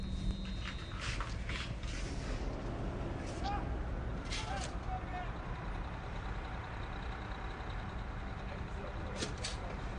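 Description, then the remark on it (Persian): A heavy transport vehicle rumbles steadily, its deep engine drone filling the scene, with a few sharp hissing bursts like air brakes and indistinct voices in the background. “فقط یه ماشین حمل و نقله، چیزی نیست.”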